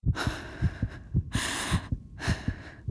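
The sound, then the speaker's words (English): A rapid, pounding heartbeat thumps steadily in the foreground while heavy, ragged breaths rise and fall over it in three long bursts. “Heart pounding, she clamped her hand over her mouth and stifled her scream.”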